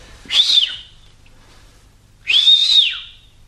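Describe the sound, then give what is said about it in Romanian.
Two clear whistled calls to summon ghosts, each a rising-then-falling tone, separated by a pause of about two seconds, fairly loud with no talking. “Mai fluieră odată, nu?”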